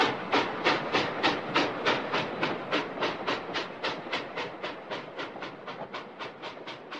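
A steam train chugs as it pulls away after its whistle has blown, a steady rhythm of hissing puffs, about three per second, gradually softening toward the end. No voices.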